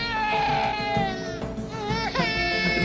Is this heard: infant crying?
yes